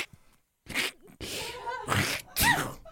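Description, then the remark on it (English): A person fakes a sneeze with a few sharp, breathy bursts in quick succession, fairly loud, with no other talking. “Try the sneeze.”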